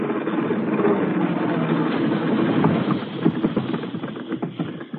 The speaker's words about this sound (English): Come on. Here comes the engine now.